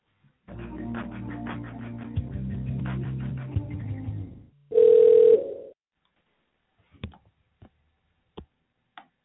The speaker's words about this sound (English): Hello, the phone is ringing. I will let you know when they answer.